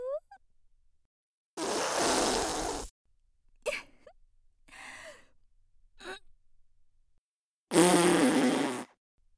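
loud fart

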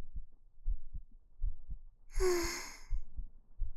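heartbeat

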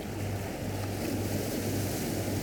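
ocean waves

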